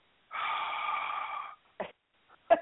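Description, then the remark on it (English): A long, breathy exhale blown close to the microphone, followed by two short, sharp puffs of air, like heavy breathing, as a person checks the temperature of their breath. No talking. “Why are you breathing so hard like a stalker?”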